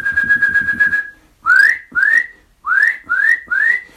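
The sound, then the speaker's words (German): A Eurasian nuthatch gives loud, clear whistling calls: a long steady whistle, then five short rising notes in a quick, evenly spaced series, prominent with little else around. “Ja, und die Kleiber packe ich da jetzt mit rein. Mit ihren lauten Pfeiftönen sind die so auffällig und über so weite große Distanzen zu hören.”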